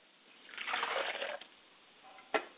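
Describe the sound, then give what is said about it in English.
Water is poured into a glass as an offering for a father's spirit, a steady stream for about a second that tapers off, followed by a sharp clink near the end. Fairly quiet, with no talking. “As I pour a glass for my Father's spirit, I say, Father.”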